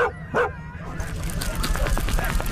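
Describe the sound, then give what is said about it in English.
A dog sled team of 8 dogs barks and yips excitedly over a steady low rumble, sharp bursts overlapping in quick succession, loud. “Wait, you're going to harness Rufus up to the dog sled team too? He's not a husky.”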